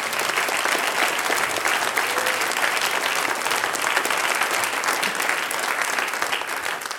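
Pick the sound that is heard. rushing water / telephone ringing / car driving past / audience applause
audience applause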